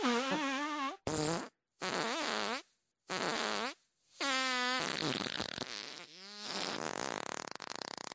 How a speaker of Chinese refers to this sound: 久等了吧，差不多要放屁了。那么第一发要放了。